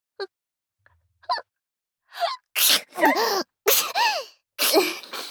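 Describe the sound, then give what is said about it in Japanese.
A quick series of several loud sneezes with voiced, breathy bursts, each following sharp little intakes of breath, coming one after another with no talking. “私も薬飲んでないから、あくしゃみ出そう。”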